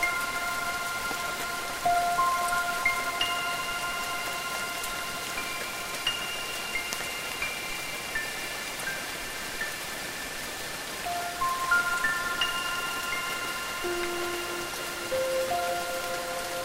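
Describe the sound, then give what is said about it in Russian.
Steady rain patters down across a surface in a dense, even hiss of drops as it comes to an end, with soft sustained musical tones gliding gently over it; no voices. “Дождь заканчивается.”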